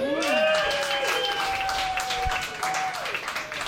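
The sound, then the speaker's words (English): Steady, moderate applause from a stand-up comedy audience, a dense patter of many hands clapping, with a voice whooping or cheering over it near the start before the clapping carries on evenly. “Your polite applause feels just as good as getting drunk used to.”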